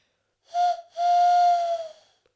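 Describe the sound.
A person imitates an owl hooting: a short breathy hoot, a brief pause, then a longer drawn-out hoot at a steady pitch that fades away, with no talking.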